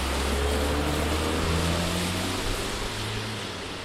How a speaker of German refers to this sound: Wir stehen vor dem Eingang der Heiliggeistkirche im Gundeli. Hinter uns rauscht auf einer vielbefahrenen Kreuzung der Verkehr durch.